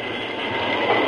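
A train brakes to stop for logs piled on the tracks, making a steady, dense grinding rumble with a harsh metallic hiss spread across the range. It holds at an even loudness for about a second with no voices.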